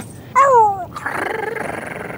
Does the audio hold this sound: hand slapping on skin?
no